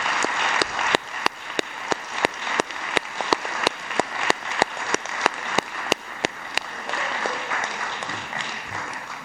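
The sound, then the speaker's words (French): Metz city council members applauding steadily for a departing official, a dense wash of clapping with one sharp clapper keeping an even beat throughout, fading slightly toward the end. “Et je voudrais qu'on l'applaudisse pour son départ, si vous le voulez bien.”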